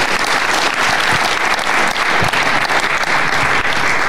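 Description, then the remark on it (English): A sustained burst of audience applause at a live stage event, welcoming Oliver Kay, chief football writer at The Times, onto the stage. Many hands clap at once in a dense, steady roar that stays loud throughout with no voices on top. “And if you could join me in applauding, it's Oliver Kay, the chief football writer at The Times, or some title like that.”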